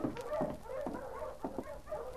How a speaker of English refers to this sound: There's a dog team coming in.